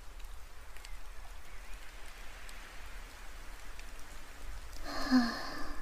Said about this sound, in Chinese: 啊，下雨天捧着热茶还真是温暖啊。不过真奇怪，明明今天看起来不像是要下雨的样子。